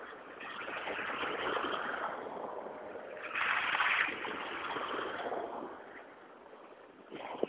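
A steady wet hiss of cars rolling slowly along a slushy street, with one vehicle swelling louder as it passes midway, then the traffic noise settles back to a constant wash.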